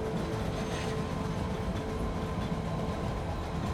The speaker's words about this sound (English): The train begins to move out of the station, picking up speed as it goes. The wheels squeal a bit on the tracks, but the train keeps on moving.